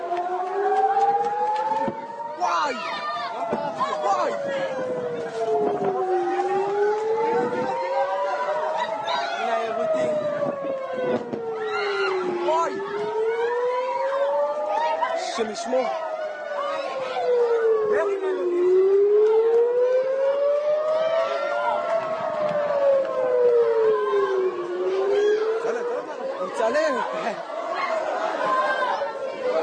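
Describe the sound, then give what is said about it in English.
An air raid siren wails steadily during a rocket attack on southern Israel, its pitch sweeping up and down in slow, repeating cycles every few seconds, while a crowd of people chatter and call out beneath it. “This is just a short video, but this is it actually happening right now, just during the last day when this bomb was coming into southern Israel.”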